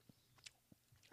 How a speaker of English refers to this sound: Cheers, the apple strudel gummy. See if it's outstanding. It's a little hard to chew, but.